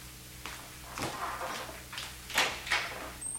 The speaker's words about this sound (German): Es ist bestimmt unser Gast. Öffnest du ihm die Tür? Ja, ich gehe schon.